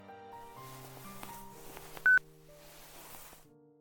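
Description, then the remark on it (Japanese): A run of electronic phone button tones as a phone call is hung up, steady overlapping beeps with one brief, sharper and louder beep near the middle, with no voices. “電話は切ったよ。”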